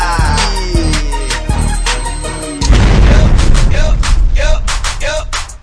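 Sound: bomb explosion boom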